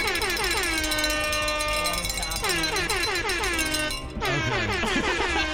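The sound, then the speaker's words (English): Opti's air horn, in a meme face-off with Nico's cowboy, blares loudly almost continuously, its pitch repeatedly swooping downward in three overlapping bursts, harsh and brassy with no pause between them. “Now, my air horn is way more powerful.”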